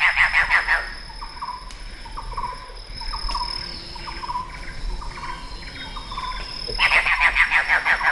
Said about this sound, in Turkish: Öyle hocam. Köpek kuş karışımı bir sesi var. Değişik.